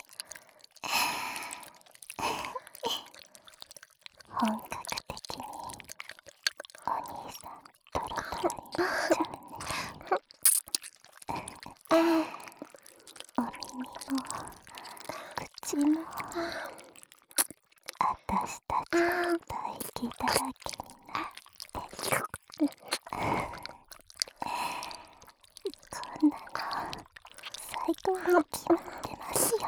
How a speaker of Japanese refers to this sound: 私はやっぱりお兄さんの口にキスするしかないですね。